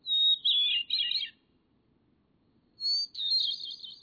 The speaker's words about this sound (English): Clearly, the bird's most distinguished attribute is its song. Even within the thrush family, which includes many highly renowned singers, the hermit thrush stands out. Its song has been described as ethereal, serene, or flute-like.